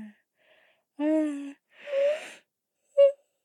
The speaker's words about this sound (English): I'm a yawning ninja. My yawns so subtle.